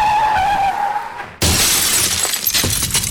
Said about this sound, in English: Davis was involved in a car accident that cost him his left eye.